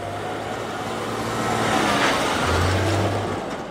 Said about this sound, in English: Massive trucks rumble out of the Stelco steel plant in Hamilton all day and night, heading towards the American border.